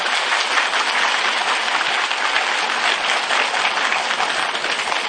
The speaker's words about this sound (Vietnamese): Do đó chúng ta xin cho các vị Phật tử đó một tràng pháo tay.